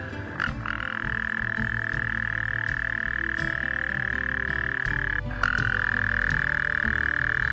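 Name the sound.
toad croaking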